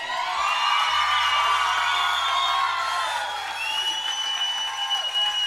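A live-show crowd applauds and cheers steadily for a band just introduced on stage, with dense clapping and scattered whoops and high shouts rising over it, holding loud throughout without a break.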